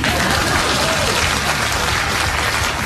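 applause

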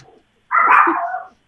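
chihuahua barking

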